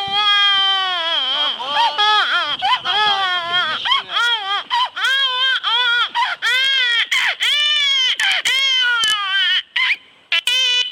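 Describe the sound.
Beatboxer A beatboxer imitates a baby's cry with his mouth for about eleven seconds: loud, wavering wails that rise and fall in a steady stream of short sobbing bursts, with no other sounds.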